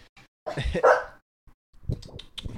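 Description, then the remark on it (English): Puppies barking in two short bursts of sharp, high yips, with a brief pause between them. “Sorry, you guys. Puppies do not listen yet.”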